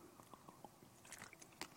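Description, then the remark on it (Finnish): A small sip of a drink, heard quietly: a short run of soft wet mouth clicks and a brief slurp, with no talking. “No pieni hörppy, kun meinaa ääni kadata.”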